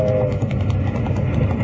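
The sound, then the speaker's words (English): A train rumbles steadily along the track, a loud, heavy low roar with a faint rhythmic clatter running through it, continuous, with no voices. “Stop that iron horse! There's a boulder on the track!”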